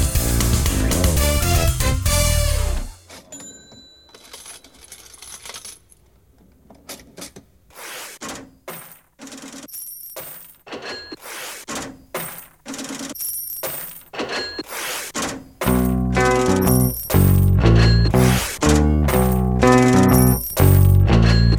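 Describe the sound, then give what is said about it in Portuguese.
A cash register rings and coins clink and rattle in a steady, looping rhythm, loud, after a brief burst of music; a full band then comes in over the clattering. “De uma das caixas registradoras mais famosas da história, né?”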